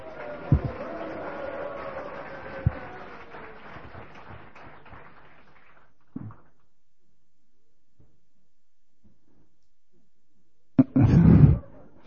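A crowd applauds and cheers to encourage arm wrestlers at an arm-wrestling match, with a few sharp accents, the noise gradually dying away into near silence, then a short, loud burst of crowd noise or a grunt erupts near the end.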